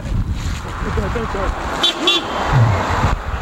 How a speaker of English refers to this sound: Wait, if a car's coming, watch out. Film the car. Everybody wave, everybody wave.